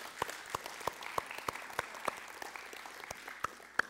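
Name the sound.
audience clapping hands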